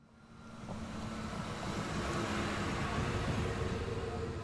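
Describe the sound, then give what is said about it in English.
The heavy engine of a slow yellow truck rumbles as it slowly approaches, growing louder over the first second and then holding a steady, throaty drone. No one speaks. “Oh no! Here comes Chuck in her slow yellow truck.”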